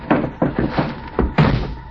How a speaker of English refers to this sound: Slammed the door shut, got in alongside of me.